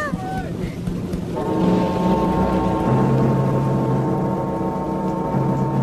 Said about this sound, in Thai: ท้องฟ้าเริ่มมืดครึ้มขึ้นเรื่อยเสียงของสายฝนเริ่มตกแรงขึ้นและแรงขึ้นเรื่อยๆ